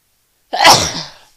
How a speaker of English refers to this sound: I gotta sneeze. Hold on.